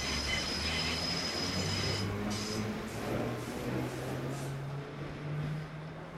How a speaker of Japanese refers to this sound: そんな土曜日、カメラを構えている観光客もいて、その視線の先には緑色の鮮やかな新しい路面電車と、その後ろから現れた古めかしい赤茶色の路面電車。